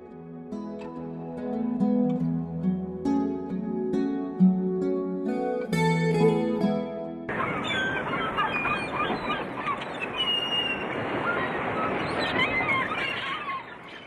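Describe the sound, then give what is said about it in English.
Harsh, honking seabird cries ring out over several seconds, then a loud, steady rush of breaking waves takes over, with more gull calls scattered on top of the wash. “Waves and seagulls, they are the sounds of the seashore, familiar to millions of people across the ages, across the world and across cultures.”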